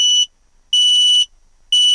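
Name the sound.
carbon monoxide alarm beeping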